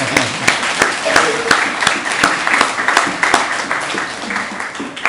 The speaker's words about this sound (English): Thank you very much. Dėkui jums labai. I'm going to applaud you now.